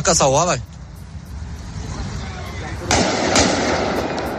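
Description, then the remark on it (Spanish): A brief wailing tone opens, then after a stretch of noisy street ambience come a couple of sharp, loud assault rifle gunshots close together, echoing against a rough background, as a gunman shoots dead two Swedish football supporters, filmed by passersby. “un tipo con un fusil de asalto había matado a balazos a dos seguidores suecos. Escena que había sido grabada por algunos transeúntes.”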